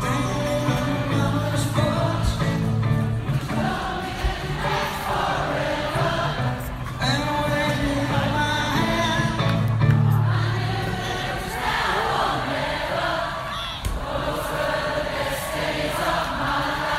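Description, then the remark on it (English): A large concert crowd in Perth sings along together over loud live music, the mass of voices steady and continuous throughout. “And have a listen to the crowd singing on it.”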